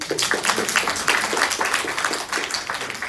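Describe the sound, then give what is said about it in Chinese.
An audience applauds the Athens church joining the US Southeast committee, with dense, continuous clapping, steady and fairly loud for about three seconds with no voices on top. “而且我听说 Athens 教会现在要加入美东南侧委会啊，我们给他鼓掌。”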